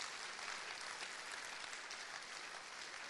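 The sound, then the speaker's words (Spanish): Steady, sustained applause from a church audience applauding Christ during a sermon, a dense wash of many hands clapping at an even level throughout with no pauses and no talking over it. “Dele un aplauso a Cristo por ese amor.”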